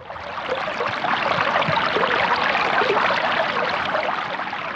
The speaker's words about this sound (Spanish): sí, amigos, era un río.